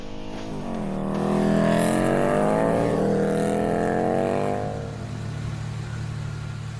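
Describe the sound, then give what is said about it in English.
A chopper motorcycle engine revs up into a loud roar, holds it for a few seconds, then drops off abruptly, leaving only a low, steady rumble behind. “Lester's chopper engine roars in triumph one final time before cutting out”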